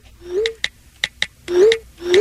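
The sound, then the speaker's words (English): A rapid string of text message alerts from someone who hits send after almost every word or letter typed: short, bright electronic pings repeating in quick succession, mixed with low rising swoosh tones, with no talking over them. “They hit send after almost every word or every letter that they're typing, and it sounds a little something like this.”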